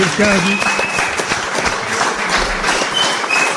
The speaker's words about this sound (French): Voilà, je crois qu'on peut l'applaudir. Ouais.